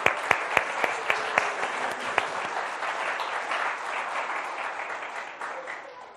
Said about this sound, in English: Okay. Sit. Let's give them a clap.